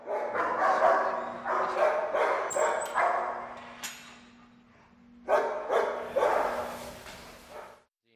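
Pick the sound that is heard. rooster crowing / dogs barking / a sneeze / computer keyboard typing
dogs barking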